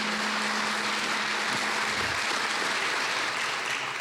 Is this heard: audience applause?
yes